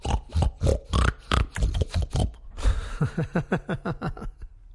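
Pigs grunt and oink in a rapid, overlapping jumble, followed by a steady run of short, rhythmic snorts that dip in pitch, loud throughout with no talking.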